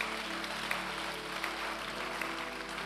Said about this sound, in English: Oh, hallelujah. Praise God. Can you clap those hands for the Lord Jesus?